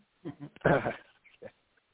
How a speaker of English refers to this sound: My dog was making noise. He's in the office with me here.